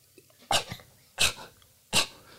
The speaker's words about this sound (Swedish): Katta fan hostar upp en hårboll på trasmattan framför dig.